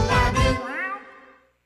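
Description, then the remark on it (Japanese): A single kitten meow, fairly loud, drawn out for over a second with a bending pitch before trailing off, a brief low rumble underneath at the start, in an advertisement for the pet shop Wan Love. “子犬、子猫、子犬、子猫、ペットショップ、ワンラブ。”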